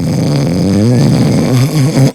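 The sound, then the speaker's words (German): A voice imitates loud snoring: a sustained, rumbling, throaty drone with a wavering pitch, forceful for about two seconds before cutting off abruptly. “Du hast so laut geschnarcht.”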